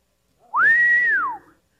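A single clear whistle by a person, lasting under a second: it glides up quickly, holds a steady high note, then slides back down before stopping, with no talking alongside.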